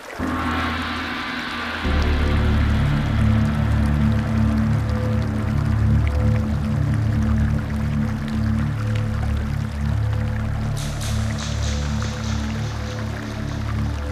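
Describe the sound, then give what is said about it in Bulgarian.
Water trickles and flows steadily in a cave hidden behind a mountain waterfall, with drips over a deep, constant rumble; a brighter rushing hiss joins near the end. No voices. “Пещера скрита зад планински водопад, а в нея несметно богатство.”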